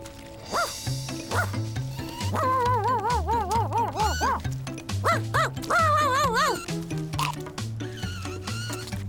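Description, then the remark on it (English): A puppy playing with a mop yips and barks in quick, playful bursts, with high wavering whines in between, all over a bouncy, upbeat music track with a steady stepping bass line. “are you playing with my mop?”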